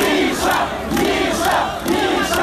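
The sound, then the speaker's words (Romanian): A large crowd at a protest in central Kyiv, Ukraine, organized by former Georgian president Saakashvili, chants loudly in unison, voices rising and falling in a steady repeating rhythm of roughly one phrase per second, with no single voice standing out. “Fostul președinte georgian, devenit politician în Ucraina, a vorbit la un protest organizat de el de mai multe săptămâni în centrul capitalei ucrainene, după ce forțele de securitate au încercat fără succes să-l aresteze.”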